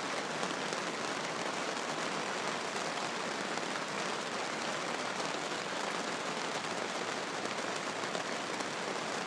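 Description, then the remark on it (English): Heavy, constant rain hammers steadily and loudly on a tent, a dense, unbroken patter of countless drops filling the whole stretch with no pauses and no voices. “So there we go, constantly raining, hammering down on the tent.”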